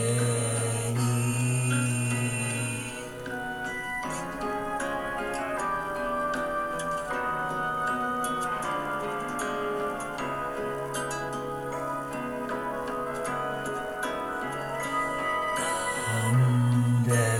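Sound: clock ticking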